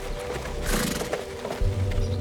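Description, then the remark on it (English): A horse-drawn buggy approaches and passes along a road by a pond, hooves clip-clopping in an uneven rhythm over a steady rattle and creak of the wheels, growing slightly louder toward the end. No one speaks. “She was about to go and push it into the pond when she heard a buggy approach.”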